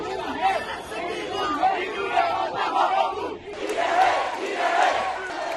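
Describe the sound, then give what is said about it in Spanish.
A crowd of protesters in the streets of Myanmar (Burma) shouts together after a military coup, calling for democracy and against military dictatorship. It is a dense roar of many raised voices in rhythmic bursts, growing louder and brighter partway through. “En las calles se podía escuchar a los manifestantes gritar: queremos democracia, no queremos dictadura militar.”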